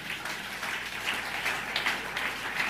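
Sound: audience clapping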